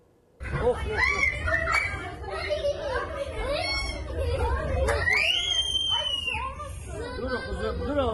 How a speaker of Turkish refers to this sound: Dur oğlum, bağırma.